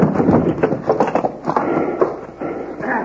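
Horses in collars strain as they haul tightly stuck bars loose, hooves clopping and scraping in a busy, uneven rhythm amid rough rumbling and creaking, fairly loud throughout, with no talking.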